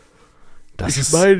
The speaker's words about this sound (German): Ich meine, ich habe mal richtig korrekt, du gähnst einfach wie so ein Tier. Entschuldigung. Meinst du, das hört man?